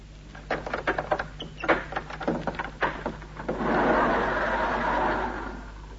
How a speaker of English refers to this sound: Get the main doors open